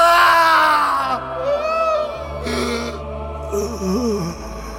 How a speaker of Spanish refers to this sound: Entonces Jesús soltó otro fuerte grito y dio su último suspiro.